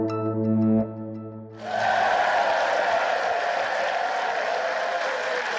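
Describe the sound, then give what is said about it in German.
A brief sustained musical tone gives way to loud, dense applause from a large crowd in the state parliament (Landtag) of North Rhine-Westphalia, for CDU politician Hendrik Wüst, the new Minister-President; steady clapping holds without letup to the end. “Diesen Applaus, den gab es heute im Landtag in Nordrhein-Westfalen.”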